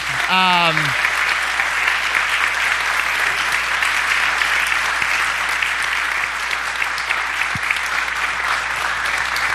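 In a church, a crowd applauds a staff member steadily for several seconds, a dense wash of clapping that stays loud throughout, with a brief vocal exclamation at the very start.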